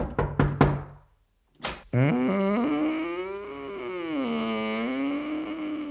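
Four quick, sharp knocks on a door, a short silence, then another thud. A woman answers in a long, wavering, sung-like voice held steadily to the end.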